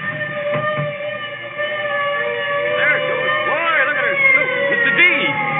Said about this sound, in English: Listen. A fire engine. Hey, I gotta see it.